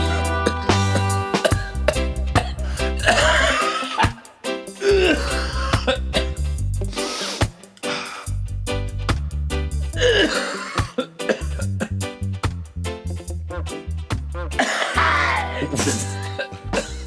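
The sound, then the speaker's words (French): Harsh, hacking coughs burst out in repeated fits over a steady musical beat with a thumping bass line, loud and rasping, as if from a chest wracked by chronic bronchitis. “Il faut qu'ils prennent du sirop, hein, parce que sa bronchite chronique, ça fait mal à entendre.”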